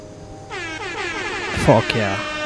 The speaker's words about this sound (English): Where's my air horn?